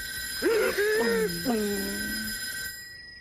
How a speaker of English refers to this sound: Ring. You want to call somebody?